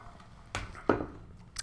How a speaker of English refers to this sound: I'm going to grab a quick sip of water, and we'll get on to the West here.